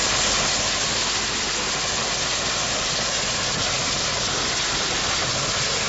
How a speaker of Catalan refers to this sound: Aquest sempre em fa pensar que se'ns ha espatllat la ràdio, no, eh? És el nostre tren, aquest. El nostre tren que va tot a pastilla.